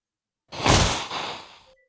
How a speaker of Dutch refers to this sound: Wat een kut sound effect. Dat iemand niest. Het moest een zweep zijn, maar ik weet het ook niet.